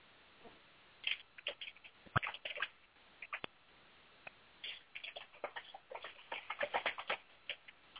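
keyboard typing

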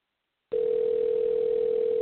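telephone ringing unanswered

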